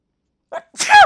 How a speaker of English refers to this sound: Right in the middle of the show, I sneeze.